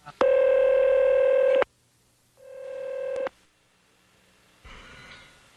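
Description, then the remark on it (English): Telephone DTMF dialing tones as a phone is dialed: a loud, steady electronic beep lasting over a second, then a shorter, softer one, and finally a faint, hissy tone. No voices are heard. “Then we're going to have to get him back on the phone again.”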